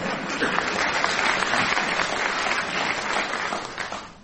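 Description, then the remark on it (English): An audience claps steadily for about four seconds, a dense, even wash of many hands that stays fairly level before tapering off at the end. No one speaks over it. “I understand kind applause when I hear it.”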